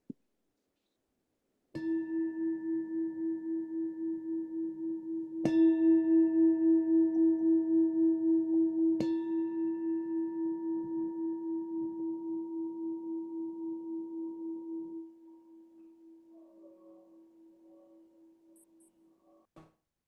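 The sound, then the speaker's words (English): A bell is struck three times at even intervals, each strike sharp and then blending into a steady, low ringing tone that hums on and slowly fades away to silence. “So with that, I invite Emika to ring the bell for us three times, and we just can go into a posture.”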